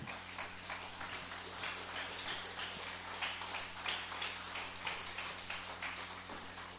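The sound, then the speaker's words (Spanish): A crowd applauds steadily for several seconds in praise of God, a dense patter of many hands clapping at once, fairly soft, with a low hum beneath and no talking. “Si lo cree, dale un aplauso fuerte a Dios.”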